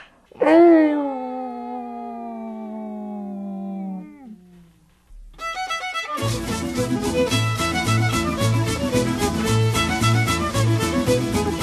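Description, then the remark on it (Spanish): A person lets out one long, drawn-out howl muffled into a cushion, its pitch sliding downward over a few seconds before fading, then upbeat music with a steady beat starts up. “O también podemos ponernos un cojín, tapándonos la boca así, y aullar así en silencio.”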